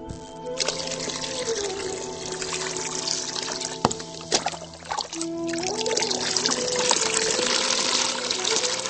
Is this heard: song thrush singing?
no